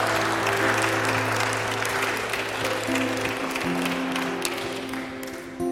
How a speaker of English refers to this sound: Why don't you give the Lord a hand clap?